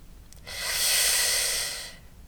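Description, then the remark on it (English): A single soft, steady hiss of breath drawn in through the teeth in Sitkari, a cooling and calming yoga breath, lasting about a second and a half, bright and airy with no voice, swelling gently and then stopping. “Sounds like a soft hissing sound.”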